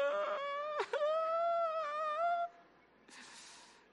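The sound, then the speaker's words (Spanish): A boy cries at home in one long, loud, wavering wail that catches briefly near the start, then trails off into a quieter, breathy whimpering sob. No one speaks. “en la casa llorando.”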